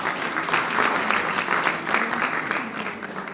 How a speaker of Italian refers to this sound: Un applauso.